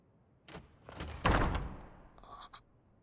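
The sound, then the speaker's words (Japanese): A door bangs open with a heavy thud and a brief rattling scrape as someone enters without knocking, followed by a couple of faint metallic clicks as it settles. No voices. “毎日ノックもせずに入ってきて 本当に無礼極まりないやつなのよ。”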